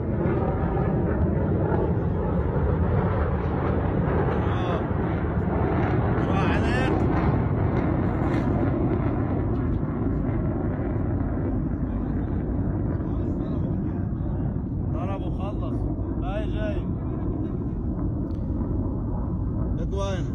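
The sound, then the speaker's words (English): A steady, loud jet engine roar from a jet aircraft, identified as an Israeli jet, rumbles continuously for the whole stretch with no clear rise or fade. Faint, indistinct voices come through briefly beneath it. “So here's the first, this is what they're saying is evidence of a jet.”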